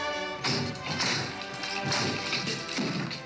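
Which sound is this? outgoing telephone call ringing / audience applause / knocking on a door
knocking on a door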